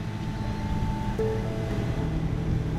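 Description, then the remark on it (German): A motorboat steered by an oyster farmer moves steadily through water only about one metre deep in the Ria Formosa marshes, Algarve, Portugal, heading for an area marked with small black buoys. Low engine rumble and a faint whining tone over continuous splashing water and wind noise, no talking. “Er lenkt das Boot auf eine mit kleinen schwarzen Bojen abgesteckte Fläche zu.”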